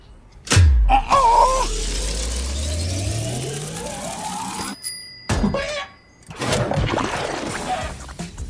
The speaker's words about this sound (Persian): صدا شوشنه؟ صدای جلز بلز کردنش. بوشو حس کنید.